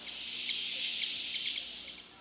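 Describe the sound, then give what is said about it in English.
Ruby-throated hummingbird sounds: a steady, high-pitched whirring drone of its wings in flight runs throughout, with several quick squeaky chips made as it flies scattered over it, all fairly soft and with no voices. “They get their name from the droning sound made by their wings in flight. They also make squeaky chipping noises as they fly.”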